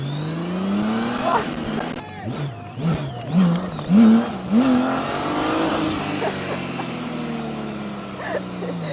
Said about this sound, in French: C'est un V8. Ah, 6 cylindres, V6. Ouah la vache, hey, ça a du couple hein.